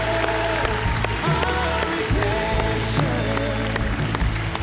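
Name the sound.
audience cheering and applauding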